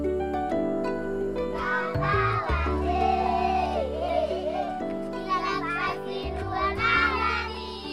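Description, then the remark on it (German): Children's high voices chatter and call out continuously, lively, as they play in front of a clay house on a hill 2 kilometres from the village of Fiadanana, over a steady low droning hum that runs beneath the whole scene. “Kinder spielen vor einem Lehmhaus auf einem Hügel, 2 Kilometer vom Dorf Fiadanana entfernt.”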